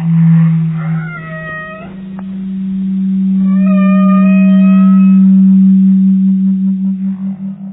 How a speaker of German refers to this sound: Das bekannteste ist wohl das der Wale. Mit diesem sogenannten Walgesang können die Tiere über weite Strecken kommunizieren.